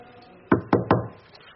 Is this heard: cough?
no